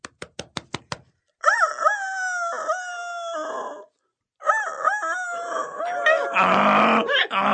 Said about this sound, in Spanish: Ha ordenado a la cocinera que esta noche me corte el gaznate y me convierta en gallo en chocolate. Por eso grito desesperado con todas mis fuerzas.